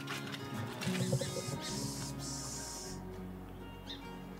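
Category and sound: bird, song sparrow singing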